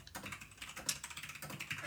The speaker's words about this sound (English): I hear the keyboard just clacking away.